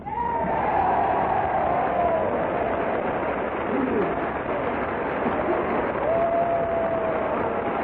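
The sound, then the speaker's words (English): Loud, sustained applause from the whole House and gallery of Congress, risen as General Douglas MacArthur comes down the aisle toward the Speaker's rostrum: a dense unbroken wash of clapping at steady volume, with a few faint whistles and voices mixed in. “The whole House and the gallery rises and applauds as General MacArthur, followed by a delegation from both houses of Congress, comes down the aisle toward the Speaker's rostrum.”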